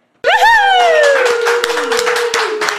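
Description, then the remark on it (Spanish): An audience applauds loudly at the opening of the show El Bar in a dense, steady patter of clapping, while a strong whooping tone glides downward in pitch over the first half and then fades beneath the claps. “¡Qué cantidad de aplausos!”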